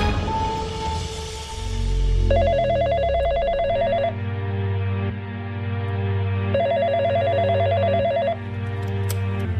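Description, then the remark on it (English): A telephone call to John Robinson rings twice, each ring a buzzy, rapidly pulsing trill lasting about two seconds, separated by a longer pause, over a steady low hum. No one speaks. “She decides to get John Robinson on the phone himself.”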